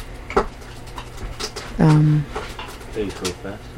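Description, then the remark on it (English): An eagle gives one loud, sustained call lasting about half a second, low and steady in pitch, set among faint scattered chirps and clicks over a constant background hum. “This eagle makes some kind of noise.”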